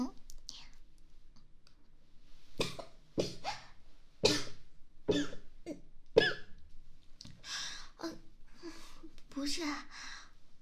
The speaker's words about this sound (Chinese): 不是咳嗽，是呛到了。哎，我都说了不是咳嗽，就是呛到了。